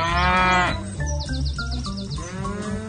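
A bison lets out a deep, loud bellow, a rich rumbling call that swells at the start and then breaks into shorter pulsing grunts, with no voices present.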